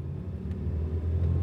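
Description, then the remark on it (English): A steady, low car engine rumble hums continuously as people in the car drive home, moderately loud, with no voices over it. “Sue and Jay are in the car. They're going home.”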